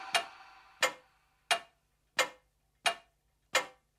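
A clock ticks in a steady, even rhythm, six crisp clicks roughly two-thirds of a second apart, each with a brief ringing tail. It is clear, with no voices.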